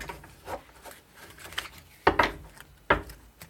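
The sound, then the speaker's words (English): Playing cards being shuffled: soft papery rustles and taps, then two louder, crisp riffling bursts close together near the end. No one speaks. “So I need to shuffle and then do 3 more cards.”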